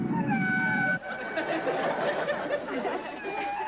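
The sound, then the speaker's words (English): Whale song from a recording of migrating whales, played on campus radio station WHZU: long, wavering moans and high drawn-out calls overlapping one another, fairly loud against a steady rushing, hissy underwater background, with no one talking. “And now for all my transcendental friends, this one is for you. The migration of the whales.”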